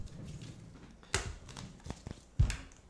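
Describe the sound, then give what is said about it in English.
A deck of playing cards, with the lands left in, being shuffled: soft papery rustling punctuated by a few sharp, crisp snaps and taps, fairly quiet overall with no one speaking. “So leave the lands in and shuffle up.”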